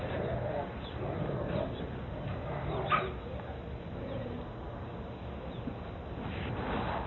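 Several dogs, no longer playful and turning nasty with each other, trade yips, whimpers and short barks in a scuffling back-and-forth, with one sharper yelp standing out midway, all over a steady, noisy background.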